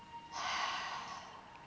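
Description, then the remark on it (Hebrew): A single long, airy breath, drawn in through the nose and let out through the mouth, starts after a brief pause and trails off slowly over about a second and a half, with no talking. “אנחנו עוצמים עיניים ואנחנו נושמים שלוש נשימות כשאנחנו מכניסים אוויר מהאף ונושמים מהפה.”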